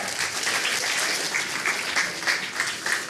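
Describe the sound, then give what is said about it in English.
An audience claps steadily, a dense wash of hand claps spread evenly across the whole stretch without pause, fairly loud, with no voices standing out. “Y'all give them a round of applause.”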